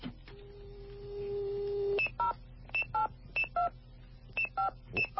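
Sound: telephone keypad dialing tones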